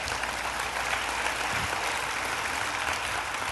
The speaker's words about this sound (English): Go ahead and applaud for that because it's true.